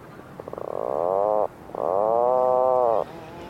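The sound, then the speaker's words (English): Two drawn-out, buzzing groans from an Atlantic puffin on Skellig Michael, each beginning with quick stuttering pulses before swelling into a steady, low, croaking drone, separated by a brief pause. “But I thought maybe you'd want to hear from a puffin.”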